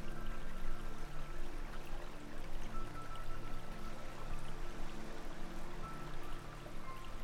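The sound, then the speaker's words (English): Water babbles and splashes steadily over stones in a shallow stream passing under a decorative white footbridge in a garden, a continuous gentle rippling with no voices. “You can hear the water as it splashes over the stones, a gentle rippling sound.”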